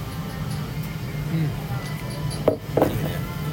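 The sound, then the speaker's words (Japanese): Glasses clink together twice in quick succession, crisp, in a toast among friends drinking together, against a steady low hum of background room noise and murmur. “じゃあ、乾杯。 乾杯。 乾杯でーす。”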